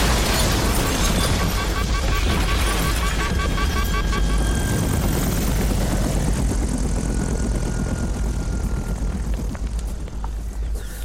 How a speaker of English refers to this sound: A missile out of nowhere. We couldn't have known. We were on course and... it smashed the screen glass.